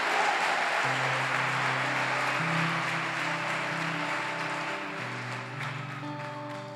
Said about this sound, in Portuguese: Quem crê, dá uma salva de palmas a Jesus. Aleluia!